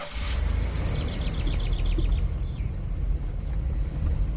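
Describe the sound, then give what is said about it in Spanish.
A car's steady, deep engine and road rumble runs throughout on a drive around 8 pm on an evening in June, while a quick series of high bird chirps repeats over it during the first half. No one speaks. “Tenemos suerte, aún nos queda un ratito de luz antes de que anochezca, así que vamos a dar una vuelta en coche.”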